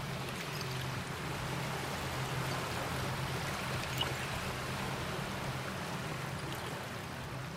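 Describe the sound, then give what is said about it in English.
Sea water washes steadily in over a bed of broken glass at a former landfill by the sea, a continuous rushing wash with faint, scattered tinkling and clinking flecks throughout, with no voices. “I think my favorite part of coming down here actually is sitting quietly and listening to the water come in because you can hear it, the tinkling noise of broken glass as the water comes in.”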